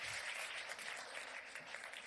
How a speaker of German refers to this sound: Ich kann Sie leider nicht hören, aber ich sehe, dass Sie klatschen und das gefällt mir außerordentlich gut.